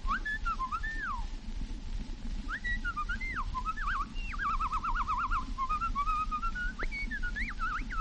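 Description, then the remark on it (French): A person, the imitator of the Casino de Paris, whistles an imitation of blackbird song: fluid, looping melodic phrases with rapid warbling trills, steady over a constant background hiss. “Le chant du merle.”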